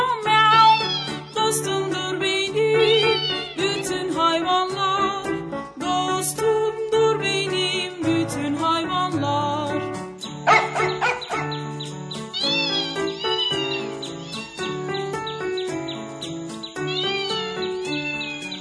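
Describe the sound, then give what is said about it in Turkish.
Cat meows, for a naughty pet cat, ring out within a bright, bouncy Turkish children's song about animals, repeating against steady instrumental accompaniment that plays loudly throughout. “Kedim var çok yaramaz, miyav.”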